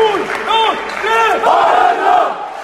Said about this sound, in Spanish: Y estos que escuchas son los aplausos de los aficionados del balonmano Villa de Aranda y de los jugadores rivales, el Bidasoa de Irún, contra el que los arandinos perdieron 27-31 y certificaban el descenso de la Liga Sobal.